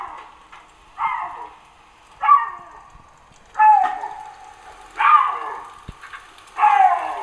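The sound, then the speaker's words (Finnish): A male animal at an enclosure fence in Ähtäri, wanting to get over to the females' side, yowls again and again in long, wailing cries that sound almost like a child, five loud calls at a slow, steady pace, with soft dripping water drops in the quiet between them. “sitä lasten ääntä muistuttavasta mouruamisesta”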